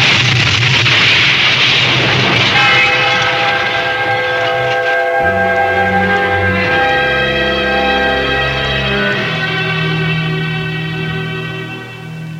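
train passing with horn

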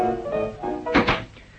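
door being shut

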